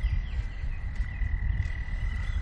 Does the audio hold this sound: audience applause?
no